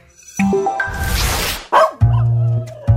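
A dog barks loudly in a quick series of sharp, uneven barks and yips, ending in a longer drawn-out bark, with no talking over it.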